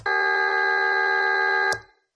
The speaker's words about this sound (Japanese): あ、できましたね。ブザー音に聞こえます。元は私の声なのにこんなに機械的な音に。